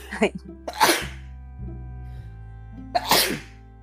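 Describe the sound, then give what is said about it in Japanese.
Two forceful sneezes about two seconds apart, each a sharp intake building into a loud bursting exhale, heard alone with quiet background between them. “あ、くしゃみ出そう。”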